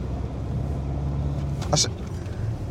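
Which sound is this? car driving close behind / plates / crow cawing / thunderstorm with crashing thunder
car driving close behind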